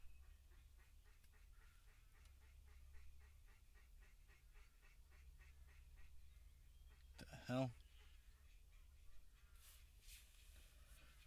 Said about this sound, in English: Those ducks. Oh, the ducks are coming to see me. They're coming for a little visit. Hey, duck.